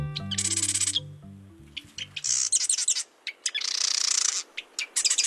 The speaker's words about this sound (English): This chatty fellow is a marsh wren, a sprightly brown bird with a cocked tail. Wrens are known for their amazing singing, including loud, complex vocalizations. And they have a huge repertoire of songs.